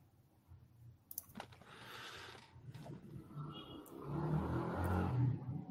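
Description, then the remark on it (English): A truck drives by outside, its low engine rumble and road noise swelling steadily louder over several seconds, with a few sharp clicks early on and no talking. “I thought you were waiting for the truck to drive by there.”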